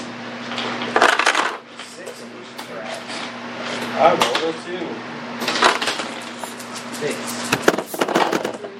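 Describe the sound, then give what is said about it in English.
Dice clatter and rattle across a hard tabletop in several separate rolls as players roll for surprise, fairly loud, over a steady low electrical hum with faint murmuring voices in the background. “and everyone was rolling for surprise.”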